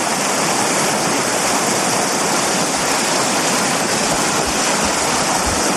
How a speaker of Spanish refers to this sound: Pues así suena el río. Este es un río truchero y hemos quedado aquí porque en un rato vamos a pescar. O a intentarlo, por lo menos.